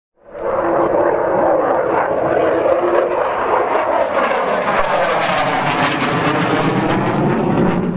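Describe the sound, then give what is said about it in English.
A loud, continuous roar of Turkish warplane engines, flying low over Diyarbakır, Turkey, during sorties against PKK positions, rises in quickly and holds for the whole clip, its whining tones sliding and shifting in pitch as the jets pass. No voices. “Turkish F-16s continue to fly sorties against PKK positions, and warplanes buzz low over Diyarbakır.”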